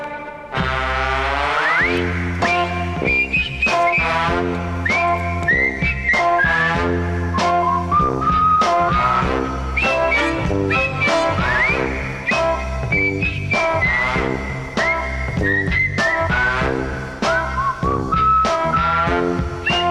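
A bright whistled melody carries a cheerful tune with sliding notes, played loudly and continuously over a steady band accompaniment for the whole stretch, with no one talking.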